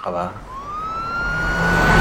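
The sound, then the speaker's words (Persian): Two police cars drive out of the police investigation bureau compound, their sirens wailing upward in a long rising sweep over a low engine rumble, growing steadily louder as they pull out, with a brief voice-like sound at the very start. “دو تا ماشین پلیس از محوطه آگاهی بیرون میان.”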